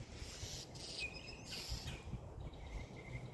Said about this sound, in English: And as you can hear, there's a lot of bird activity this morning. Seems like the mockingbirds are very angry at each other. There's also peacocks out. You might hear one. And a lot of other different kinds of birds.